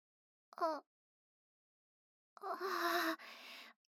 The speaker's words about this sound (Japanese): 大あくび。眠くなっちゃった？